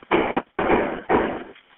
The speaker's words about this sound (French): À 14h22, le premier appel au 911 est fait. Écoutez bien ça, c'est tellement troublant parce qu'on entend les coups de feu, là. Écoutez ça.